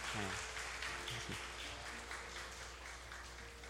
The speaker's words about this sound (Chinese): 好，感谢主吼，那我们就请回座吼，好，我们拍手来欢迎他们吼。